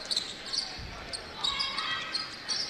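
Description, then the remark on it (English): Basketball shoes squeak on the court during a game between North Posey and the Vikings, in several short, high, chirping bursts scattered irregularly, with a soft low thud partway through and a faint murmur of activity underneath. “A lot of shoes squeaking around, as you can hear.”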